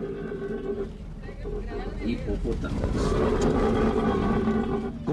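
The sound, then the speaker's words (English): Hippos at the Hacienda Nápoles theme park, once Escobar's estate, snort and grunt in deep, rumbling bursts, loud, heard by tourists on a bus over a steady low engine-like drone, with indistinct voices murmuring in the background. “Tourists on a bus hear the hippos snort like tugboats on a narrated recording that recounts how Escobar had brought a couple of them from Africa.”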